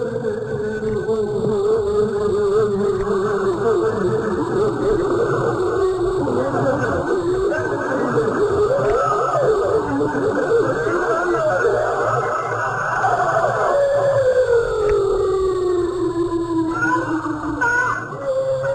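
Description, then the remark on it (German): Ghost Tape No. 10, a Vietnam War psychological-warfare tape played by American soldiers over loudspeakers: warbling, moaning tones and distorted voices meant as ghosts of fallen North Vietnamese soldiers slide and waver over a dense buzzing drone, loud and unbroken, with a long downward-gliding wail near the end. “Dieses Tonband hier ist als Ghost Tape No. 10 bekannt geworden.”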